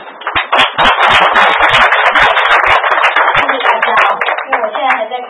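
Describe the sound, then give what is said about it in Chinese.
Audience applause welcoming a guest speaker, a director, to give a talk: many hands clapping in a loud, dense, steady patter that keeps going for about five seconds without easing off. “那我们现在掌声来欢迎我们的”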